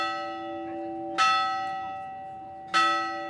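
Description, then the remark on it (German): The bell of a small chapel on the rocky island of Gaztelugatxe rings twice with a sharp metallic clang, each strike followed by a long shimmering decay that hums on between hits, with no voices. “Wer an der Glocke der kleinen Kapelle dreimal läutet, darf sich etwas wünschen.”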